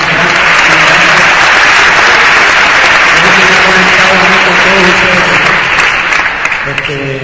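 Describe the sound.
A crowd breaks into loud, sustained applause, dense clapping filling the full seven seconds, with cheers and shouting voices rising through it before it starts to thin at the end.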